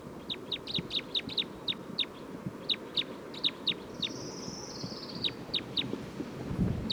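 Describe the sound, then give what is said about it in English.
A bird, recorded as bird 311, calls over and over in quick, sharp high-pitched chirps, more than a dozen in an uneven rhythm, with one brief whistled slide midway, over a steady low rumbling background. “It's recording bird 311 again.”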